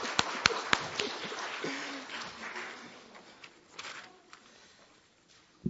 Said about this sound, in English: So thank you so much. A round of applause for the tech team.